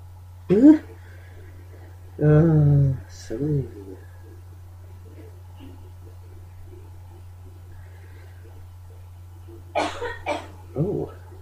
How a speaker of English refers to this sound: Oh, yikes. Don't cough up a lung.